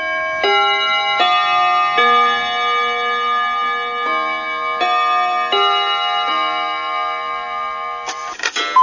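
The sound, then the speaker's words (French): Carillon chimes marking noon on Radio Bonheur play a slow melody, about eight struck bell tones in sequence, each ringing on and overlapping the next, clear and fairly loud with no voices. “Avec un peu de retard, midi 3, Le Carillon.”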